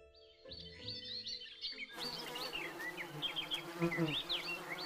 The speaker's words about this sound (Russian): Шмель, сторож цветов, гудит.